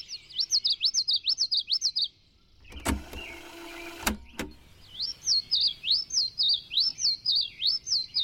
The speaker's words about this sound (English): Back in the 70s, he recorded birds on tape at high speed, then played the tape back at half speed. Slowing the songs down also lowered their pitch.